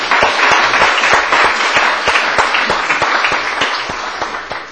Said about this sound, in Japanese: それではもう一度4人の方に拍手を送っていただきます。